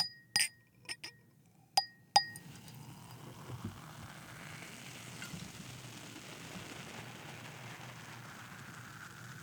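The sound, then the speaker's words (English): A few sharp glass clinks ring out at the start, then a steady crackling fizz of champagne bubbles in a glass filled to the top, the foam rising to the rim but not over, carries on quietly to the end, with no talking. “You got that foam to go up there, but not over the edge. And then you've got these bubblies.”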